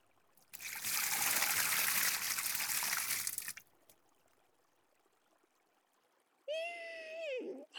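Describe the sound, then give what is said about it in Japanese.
Water from a shower rinses foam off hair in a loud, steady hiss for about three seconds, then stops. After a quiet pause, a short high-pitched tonal sound follows. “じゃあ流しちゃうから目はつむったままにしておいてね。”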